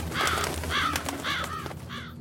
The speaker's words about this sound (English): It's just birds.